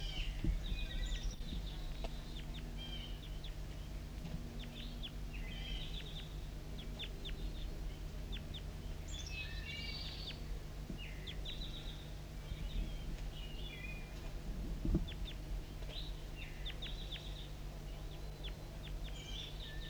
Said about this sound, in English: Recording of birds right above me in a branch about 15 meters above the surface.